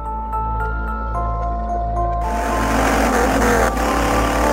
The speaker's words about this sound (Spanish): Sabrina conducía bajo la tormenta cuando su coche comenzó a fallar.